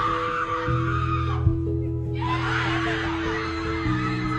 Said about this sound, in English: The team just kind of sits there silent like their dog just died. Mm. And then they all burst into screaming and jumping for pure joy at their accomplishment.